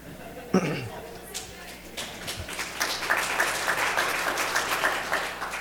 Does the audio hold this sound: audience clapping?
yes